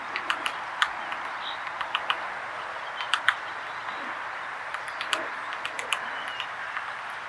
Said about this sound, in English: Reaching a large dead branch, our woodpecker hears some activity inside. It braces itself, then begins pecking at the rotting wood. Soon, it's excavating a sizable hole in the wood, and the chips are flying everywhere. Here's what that sounds like.